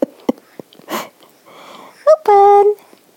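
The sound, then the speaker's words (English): Loud, snuffly breaths and quick sniffs from a female dog, her head right by the microphone, huff right into the mic, ending in a short, high-pitched whining squeak. No one speaks. “Sorry about the loud breathing. Your head's right by the microphone.”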